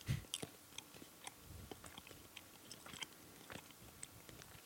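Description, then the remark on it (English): Someone chews a jelly bean: soft, irregular wet clicks and smacks repeat for several seconds, quiet overall, with no talking. “What a delicious jelly bean.”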